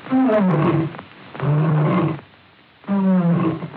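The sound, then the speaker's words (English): A lion roars three times in close succession, each deep, rumbling roar loud, separated by brief pauses, with a slightly muffled, old-recording quality and no talking. It is Leo the Lion of the Metro-Goldwyn (later Metro-Goldwyn-Mayer) studio logo. “One of the first visually was Leo the Lion for Metro-Goldwyn, which later became Metro-Goldwyn-Mayer in the mid-20s.”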